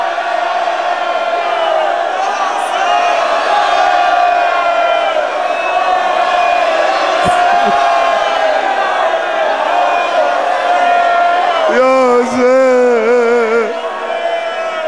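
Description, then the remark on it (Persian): A large crowd shouts the chant "Ya Hussein" in unison, a dense wall of many voices holding a long cry, then breaking into a rising, wavering call near the end. “آقا از سویدای وجودت فریاد بزن یا حسین.”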